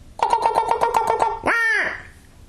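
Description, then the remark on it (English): A squirrel call imitates a squirrel bark: a quick run of about nine sharp, nasal chirps, then a drawn-out rising squeal. The sound is fairly loud, with no talking. “Now all I'm doing, and the squirrel bark is just almost the same thing.”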